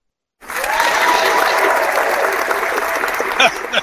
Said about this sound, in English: put that applause in there at the end.